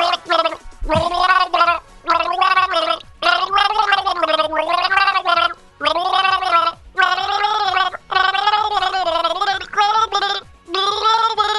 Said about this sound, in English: Okay, you got some water on me. Thank you. I appreciate that. Nothing like having gargle spit all over me.